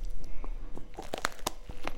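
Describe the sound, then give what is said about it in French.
Crisp crunching of small bones while someone eats, a run of sharp brittle cracks and crackles, a few louder snaps standing out, with no talking. “Est-ce qu'on entend croquer les os?”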